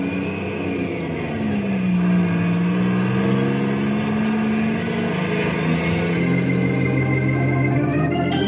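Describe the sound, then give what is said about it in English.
A truck engine rumbles steadily as the truck heads down to the warehouse, its pitch rising and falling as it revs, holding a constant loudness throughout with no voices. “I'm going to ride in the truck down to the warehouse.”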